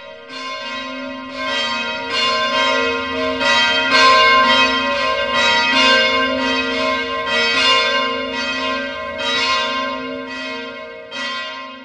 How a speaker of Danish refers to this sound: Så slår kirkeuret nede i byen 12 slag, og klokkerne begynder at gime og byde det nye år velkommen.